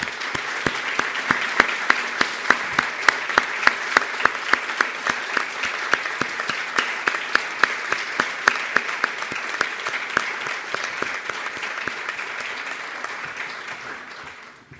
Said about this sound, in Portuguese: Uma grande salva de palmas para a Catarina.